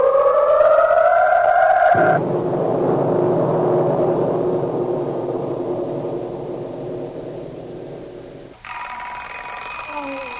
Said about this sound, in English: How many millions of workaday lives begin each day with that most unwelcome intruder, the alarm clock? This particular clock, ringing at the bedside